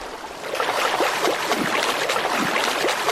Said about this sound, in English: Now, as I continue to travel here, I can hear the waterfall.